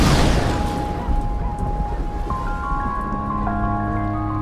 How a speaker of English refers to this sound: It sounds like thunder. What sounds like thunder?